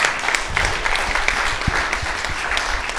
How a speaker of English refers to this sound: Amen. So let's give your pastor another big round of applause.